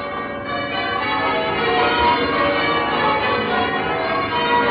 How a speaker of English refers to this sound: Now, westward across the beaches of Normandy, across the chop and rip of the channel, the tide of jubilation sweeps to Britain. Westminster Abbey sounds her bells.